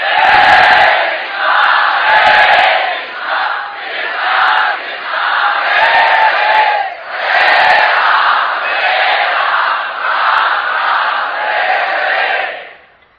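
A large crowd chants the holy names loudly and continuously in unison, a dense wall of voices rising and falling in rhythmic waves for about thirteen seconds with no pauses.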